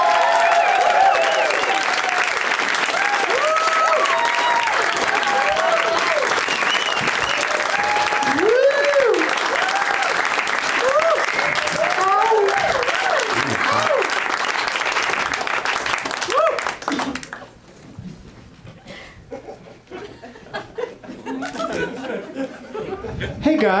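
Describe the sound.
A crowd applauds loudly and steadily for about seventeen seconds to welcome four guests on a show, with cheers and whoops rising above the clapping, then the ovation drops off abruptly and a few voices chatter quietly.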